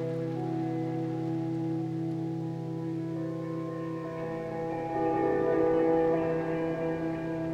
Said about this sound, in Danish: Det regner og regner.